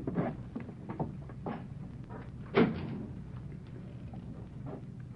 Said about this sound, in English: Could have sworn I heard a board creak. Someone standing outside that door.